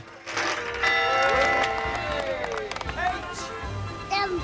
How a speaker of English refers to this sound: A soldier wheels a mallet to ring the bell stall.